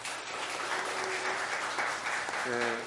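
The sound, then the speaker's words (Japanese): A church audience applauds to bless a boy, his mother and grandmother, with steady, dense clapping that holds at an even level throughout, while a voice briefly speaks underneath near the end. “本当に祝福がありますように、拍手を持って祝福がありますよ。”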